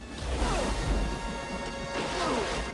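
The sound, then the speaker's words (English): A heavy double-fisted punch lands with a thudding smack, followed by a crashing splash as the man hit falls face down into a puddle, all set against a dense, steady roar of rain and wind filling the background. “The double-fisted punch sends Kane reeling into the puddle behind him face down.”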